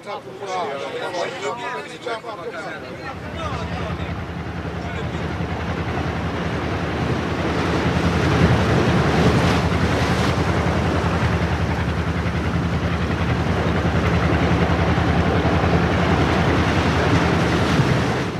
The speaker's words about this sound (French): La mer est creuse, mais reste maniable. Le vent siffle dans les gréements.